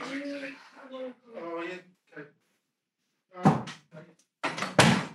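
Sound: doors being shut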